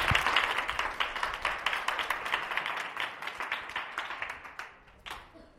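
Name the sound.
audience applause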